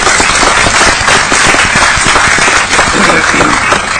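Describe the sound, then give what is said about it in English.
A crowd breaks into sustained applause for a legislative aide who prepares the resolutions, many hands clapping in a dense, loud, steady patter that fills the whole stretch without letting up. “So how about a round of applause for my legislative aide”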